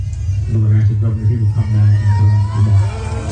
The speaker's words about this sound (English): Florida Republican Governor Ron DeSantis attended the vigil and was booed. Florida Governor Ron DeSantis is here.